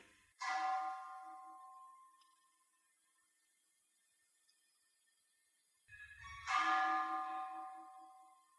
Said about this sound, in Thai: ตอนหลวงพ่อหัดนะดูจิตนะเวลาเสียงระฆังกระทบเนี่ยมันเห็นจิตไหวติ้งขึ้นมาตอนที่เสียงไม้กระทบระฆังแล้วตรงที่เสียงระฆังมันคลางอ่ะรู้สึกไหมมันเป็นคลื่นเป็นคลื่นนะเสียงเป็นคลื่นเสียงสูงสูงเนี่ยไหวเงี้ยคลื่นมันไหวอย่างนี้นะ